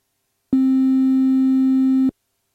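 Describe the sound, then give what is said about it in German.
A steady synthesizer triangle-wave tone holds one low-mid pitch for about one and a half seconds, soft and mellow with faint upper overtones, starting and stopping abruptly with no talking. “Ein Dreieck, das ist ja praktisch sowas wie ein Sägezahn, wo die Spitze dann in der Mitte ist.”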